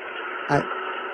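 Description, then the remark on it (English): A steady, hissing static-like recording from a spring CD plays through a tinny, band-limited phone speakerphone, with a brief louder burst that sounds like a voice in the middle. “It sounded like static. It didn't sound like bees, but maybe that's what it sounds like.”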